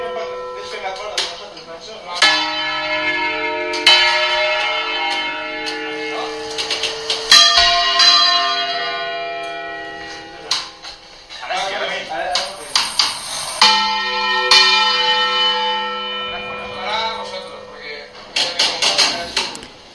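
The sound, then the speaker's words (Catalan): Church bells ring out in a series of loud, resonant strikes, each clang overlapping the long humming decay of the one before, with brief quieter gaps between peals. “estem sentint unes campanes”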